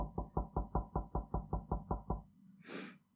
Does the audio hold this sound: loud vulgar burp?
no